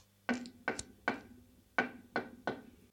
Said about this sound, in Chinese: 有人敲门